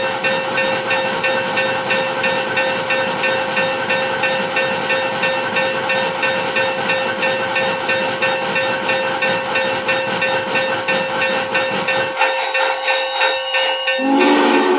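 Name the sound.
steam locomotive hissing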